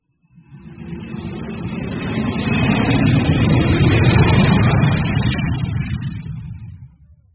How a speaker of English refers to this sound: An aeroplane.